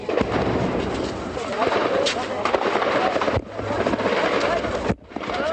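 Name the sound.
gunfire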